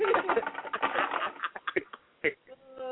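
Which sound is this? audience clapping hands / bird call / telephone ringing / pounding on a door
bird call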